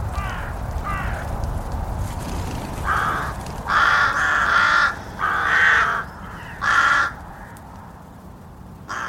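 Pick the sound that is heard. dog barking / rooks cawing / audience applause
rooks cawing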